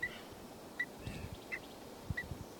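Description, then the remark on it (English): A bird, number 384, gives short, sharp alarm notes, four in a row spaced under a second apart, fairly faint over a low rumbling background. “And that was 384 giving an alarm.”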